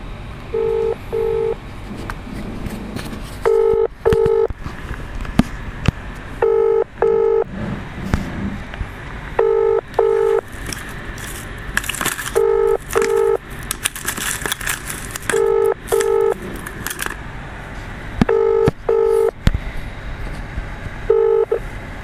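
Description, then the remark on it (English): Telephone keypad tones beep in quick pairs, each pair repeating every few seconds over a faint crackly background hiss, with no voices. “Press 3 for IT and facilities. Press 4 for any other inquiries.”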